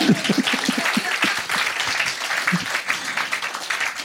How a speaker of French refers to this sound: J'ai fait du vin de coquille d'œuf. Alors là, je vous demande d'applaudir, même si vous ne connaissez pas.